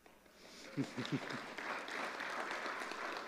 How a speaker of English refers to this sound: Yeah, you really ought to applaud her.